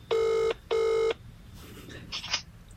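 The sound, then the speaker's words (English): Two long ringback tones with a short gap between them, loud and steady like an outgoing call ringing down the line to a woman from Cork, followed by faint rustling and handling noise. “Okay, it's ringing.”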